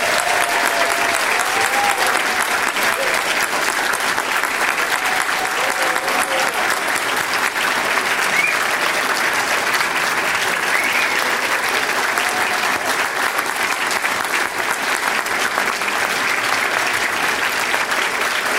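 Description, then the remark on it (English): A large conference audience applauds the conference staff, clapping steadily and loudly for almost twenty seconds, a dense, even wash of applause that neither builds nor fades, with a few faint voices buried underneath. “The staff's work in making this conference happen often goes unnoticed, but I'd like us to give them a round of applause for all that they do to make this happen.”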